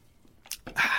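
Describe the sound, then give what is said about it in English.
A quick sip of ice-cold Coca-Cola from a can: a couple of soft clicks, then a short wet slurp with a fizzy hiss rising at the end. No one speaks. “I'm going to take a sip of my beverage du jour.”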